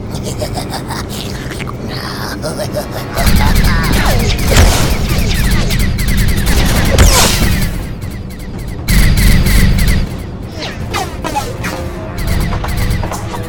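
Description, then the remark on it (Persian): A loud, chaotic volley of gunfire fired on command during a hunt, many shots overlapping into a dense roar with crashing and rumbling impacts, surging in two heavy waves before thinning out. “وقتشه ببینیم کی به شکارمون ملحق میشه. شلیک کنید.”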